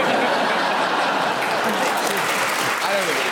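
The audience of the panel game Just a Minute applauds an amusing interruption, steadily for the whole stretch, a dense wash of many hands clapping at full volume, with faint murmurs and a little laughter mixed in.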